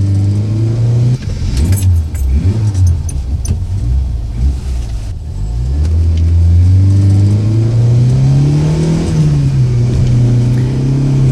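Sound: car accelerating fast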